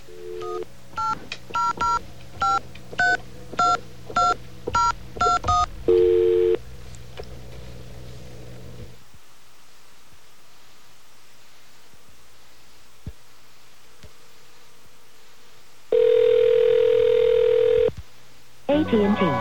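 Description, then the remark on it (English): A rapid run of about ten touch-tone beeps dialing an 800 number, then a short steady tone, a quiet stretch with faint clicks, and a loud sustained telephone tone that cuts off before another begins. “Okay, we have our strange dial tone there.”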